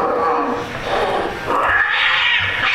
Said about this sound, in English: Cats hiss.